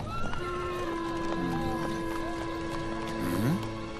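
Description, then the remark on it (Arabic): Horse hooves clip-clop in a steady, moderately loud rhythm, mixed with a drawn-out, wavering horse whinny that rises and bends near the end. “هيا أيها الحصان.”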